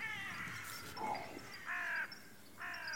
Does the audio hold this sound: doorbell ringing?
no